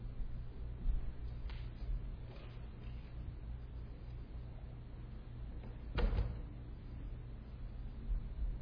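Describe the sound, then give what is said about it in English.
A chair is moved with a couple of faint scrapes, then set down with one louder clunk partway through as it is put out to serve as a mock witness stand, against a steady low hum and no talking. “I'm going to put this chair out here, and it's going to become our witness stand.”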